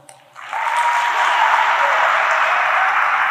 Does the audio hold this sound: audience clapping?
yes